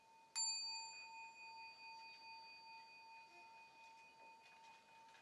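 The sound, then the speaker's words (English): A meditation bell is struck once and left to ring, its clear, pure tone fading slowly over several seconds with no voices. “I will sound the bell 3 times and really take your time moving at your own pace, returning into this space.”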